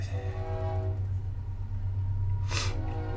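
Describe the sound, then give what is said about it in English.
A train rumbles past with a steady, heavy low drone and long tonal horn-like harmonics, plus a brief hissing burst of air or brakes partway through. No one speaks. “Of course, the train has to come by now.”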